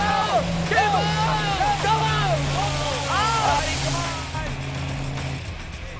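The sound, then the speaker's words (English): A vehicle engine revs hard again and again on a dirt track, its pitch swooping up and down in quick surges over a steady low drone as its wheels dig into loose dirt ruts, loud throughout before easing slightly at the end. “But he seems to be stuck in the Jet Doctor's ruts. There's just too much loose dirt there to get a grip.”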